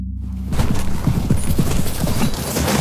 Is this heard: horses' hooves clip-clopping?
yes